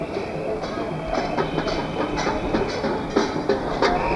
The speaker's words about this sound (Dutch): Er komen allemaal trams voorbij, is een beetje lastig.